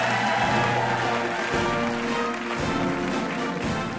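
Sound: audience applause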